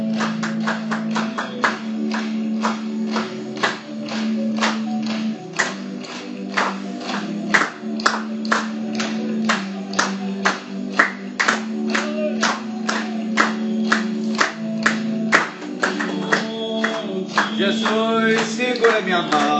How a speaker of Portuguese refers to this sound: Vamos batendo palmas a ele.